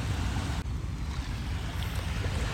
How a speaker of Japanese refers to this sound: 今私は海から5メーターぐらいの砂浜のところに座りながら収録をしてるんですけれども、この心地よい波のせせらぎは皆さんの耳にも届いているんでしょうかね。